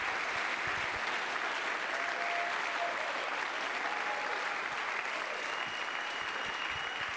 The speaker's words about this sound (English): Come on, let's clap for the Lord together for just a moment. Hallelujah.